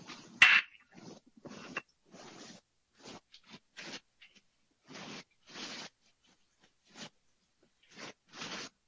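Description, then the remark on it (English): Crisp plastic-bag crinkling and the soft rattle of about half a cup of breadcrumbs being poured into a plastic bag, in short irregular bursts with brief pauses between. Fairly quiet, with no talking. “Okay, we want to put about another 1/2 cup or so of breadcrumbs in another plastic bag.”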